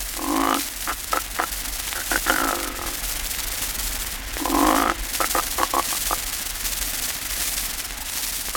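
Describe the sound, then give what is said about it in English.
A loud, rasping snore erupts twice, each time breaking into a quick run of sputtering, clicking rattles, like a snorer jolting themselves awake: the auto-resuscitation or self-awakening type of snore. A low hum sits underneath. “Which, logically and almost inevitably, develops into the acme, the last word in snoring. Type 8, the auto-resuscitation or self-awakening variety.”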